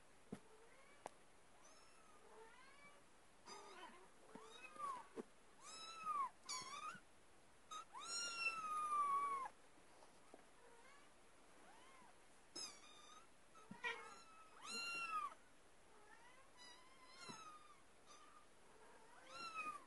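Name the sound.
cat meowing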